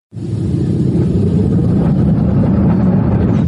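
A car engine rumbles loudly and steadily, its low drone rising slightly in pitch as it revs and drives past, with no voices over it.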